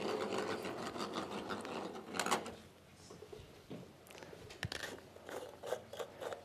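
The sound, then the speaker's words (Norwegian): Plastic draw balls rattle and clatter as they are shuffled around in a pot for a draw of the second set of pairings from eight groups, a dense, busy jumble of clicks that surges early and then continues in scattered, uneven bursts. “Another good shuffle.”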